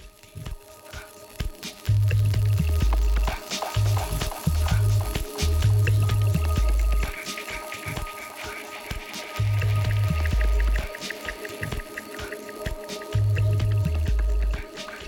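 Experimental music made from water, wood and bone, built from watery drips and squishy, organic textures, with a deep bass throb that pulses in short rhythmic bursts, pausing and returning several times. No voices.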